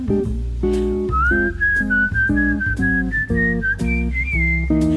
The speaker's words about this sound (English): I'd whistle a little tune for you.